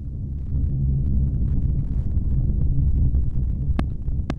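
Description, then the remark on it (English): Sonified solar data: a steady, deep rumbling drone with a churning, throbbing texture, broken near the end by two sharp, bright clicks. No voices. “And this is the heartbeat of the sun.”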